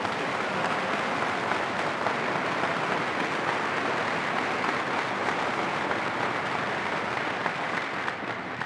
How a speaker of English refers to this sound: Could we have a terrific round of applause this time for me? Really hit one.